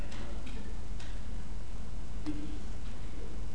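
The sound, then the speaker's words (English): Soft, evenly spaced ticks of a wall clock sound over a low steady hum, fairly faint, with no one speaking. “Now, you are going to use the clock on the wall up here, right,”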